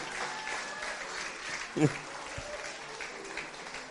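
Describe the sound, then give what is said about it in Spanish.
An audience applauds the Lord steadily for a few seconds, the clapping blending into a dense, even wash with a brief louder burst near the middle and faint voices mixed in. “Denle un aplauso al Señor en esta hora.”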